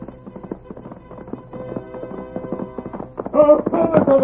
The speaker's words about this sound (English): Look at that horse come. Look at the Lone Ranger ride.